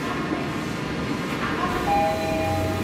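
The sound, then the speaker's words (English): A train rolls steadily along the rails with a continuous low rumble, and a thin high-pitched squeal of metal rises briefly toward the end, on a long ride from Tokyo down the coast of Japan to the coastal town of Kushimoto in Wakayama, through rugged coastal landscape. “To find out about the challenges of that, I had to get out of Tokyo, take a long train ride down the coast of Japan.”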